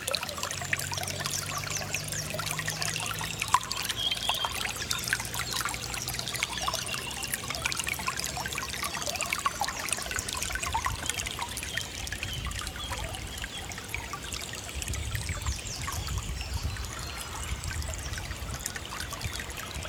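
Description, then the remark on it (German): The Heisterbach brook flows steadily in spring with a continuous trickling, babbling wash of water, dense and even throughout, with faint low rumbles underneath and no voices. “Der Heisterbach und das Frühlingszwitschern der Vögel.”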